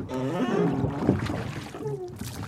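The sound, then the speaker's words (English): A boat's engine drones and revs, its throaty tone rising and shifting as the craft pulls away down a shallow river channel, with no voices heard. “We're just going to go down the channel here in a bit.”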